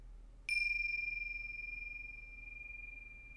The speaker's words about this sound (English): And at the sound of the bells, opening awareness to all the sounds in our environment.